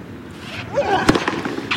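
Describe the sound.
A crowd stomps and claps in a steady chant rhythm, a few sharp percussive hits landing in quick succession over a murmur of voices.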